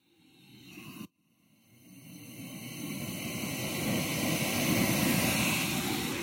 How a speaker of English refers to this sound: The sound of my jet boil going down here just past the Jones Creek campground.